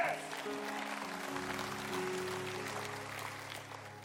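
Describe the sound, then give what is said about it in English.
A crowd gives polite, restrained applause, a steady patter of many hands clapping at moderate volume for a few seconds, with a soft sustained keyboard tone humming underneath. “If y'all golf tournament clap one more time.”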